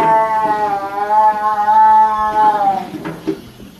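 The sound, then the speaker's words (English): A tiger yowls in one long, drawn-out, wavering cry that lasts nearly three seconds, loud, then trails off into faint background rustling. “Have you ever heard a tiger yowl?”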